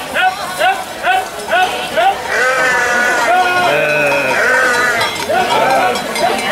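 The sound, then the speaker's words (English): A flock of sheep, including some black sheep, bleats repeatedly and overlapping, many wavering calls fairly loud, forming a continuous chorus with no pauses. “Oh, there's some black sheep.”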